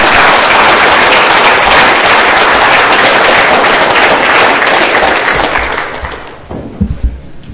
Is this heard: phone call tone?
no